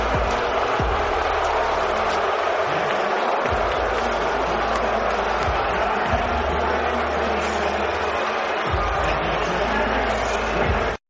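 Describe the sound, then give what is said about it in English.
A large arena crowd of Knicks fans at Madison Square Garden, New York, boos Kristaps Porzingis on his return in a dense, sustained roar that stays loud and steady for about eleven seconds, with low rumbling swells underneath and no individual voices standing out. “That's kind of like nice booing.”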